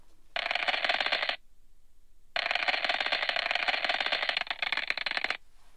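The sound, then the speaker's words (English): Sonified space recording of a passing comet: a dense, scratchy crackling buzz in two loud bursts, a short one followed after a brief silence by a longer one, with no voices. “Passing comet, this one.”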